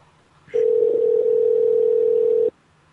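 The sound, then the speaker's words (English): A steady, loud telephone ringback tone sounds once for about two seconds on an outgoing call to someone in Hawaii, a single unbroken electronic hum with no voices present. “Okay, the phone is ringing.”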